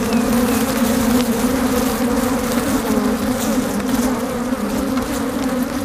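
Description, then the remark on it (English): A dense, loud swarm of angry African honeybees, disturbed and erupting out of their hive, buzzes right up against the microphone, a continuous droning hum with overlapping wingbeats and no pauses throughout. “This is that original recording of Angry Bees.”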